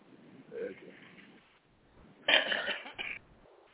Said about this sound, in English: Y'all just not going to let me blow my nose.